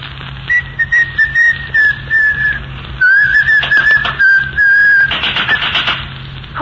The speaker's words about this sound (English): No whistling in the hospital.